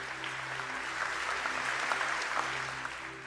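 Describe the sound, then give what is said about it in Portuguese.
An audience applauds steadily after a prayer, a dense patter of many hands clapping at an even level for a few seconds, with a faint low hum running underneath and no voices. “E você pode dizer amém, pode aplaudir que ele é santo.”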